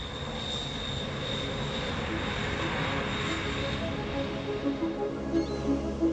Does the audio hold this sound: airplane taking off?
yes